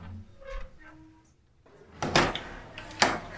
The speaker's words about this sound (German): Habt ihr es schon gehört? Nee, was denn? Komm doch vielleicht erstmal rein und mach die Tür wieder zu.